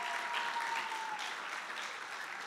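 A crowd claps steadily for the volunteer running the projector, a dense, continuous wash of applause that holds fairly level before easing slightly toward the end, with no voices rising above it.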